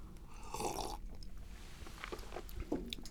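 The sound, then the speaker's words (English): Someone sips a freshly brewed cup of just-roasted Chiapas coffee from Mexico, with a soft slurp followed by quieter mouth and swallowing noises a moment later, and no talking. “So why don't you take a little sip, pause, and see what you think of this stuff.”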